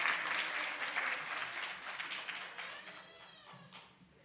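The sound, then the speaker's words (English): A burst of hand clapping, dense and rapid like a small round of applause, gradually thinning and fading out over a few seconds. “You should clap for yourself.”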